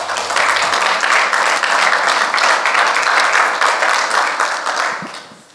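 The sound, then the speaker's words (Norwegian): A crowd applauds the worship singers, clapping together in a steady, dense burst of applause that holds loud for about five seconds, then tapers off at the end. No one speaks. “Vi kan nog ge dem en liten applaus.”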